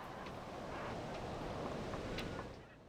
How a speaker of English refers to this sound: It's a windy morning. There's a thick, dark layer of fog rolling in from the east.